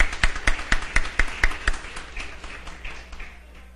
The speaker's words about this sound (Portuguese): Isso é muito gratificante e, ao mesmo tempo, eu peço aos vereadores que saúdam com a salva de palmas os presentes.